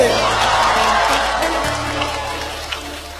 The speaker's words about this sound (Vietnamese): Một tràng pháo tay cho vũ đoàn ABC.